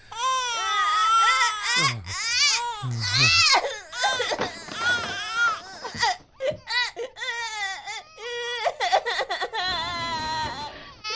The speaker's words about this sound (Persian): چیزی نشده، گریه نکن دختر گلم، گریه نکن، خواهش میکنم. گریه نکن عزیز بابا، بیا بیا.